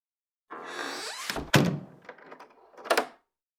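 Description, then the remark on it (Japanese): A door swings shut, with a brief rustling scrape before a solid thunk. Soft rattling clicks follow and a final latch click settles it, with no voices. “その前に、ドア閉めちゃおっか。”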